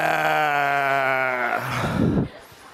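A single drawn-out sheep bleat, loud, holding a steady wavering tone for about a second and a half before breaking into a rougher, breathy tail and cutting off.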